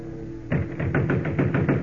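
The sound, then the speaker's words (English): Rapid, heavy pounding on the wooden door of Nino Benelli's art shop near the waterfront at 2 o'clock in the morning, about eight loud thuds in a steady quick rhythm, starting after a brief quiet moment with no voices. “Kent, we've been pounding that door for 5 minutes and no one answers.”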